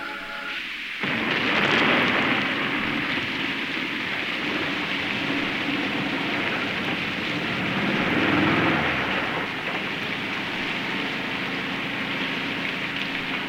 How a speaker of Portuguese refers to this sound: O forte vento e a chuva parecem arrancar as árvores do caminho.